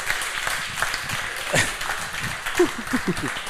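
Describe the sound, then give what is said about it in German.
Steady audience applause as a guest slowly makes his way up onto the stage, a dense wash of many hands clapping at moderate loudness, with a few faint voices and brief cheers mixed in toward the end. “Großen Applaus.”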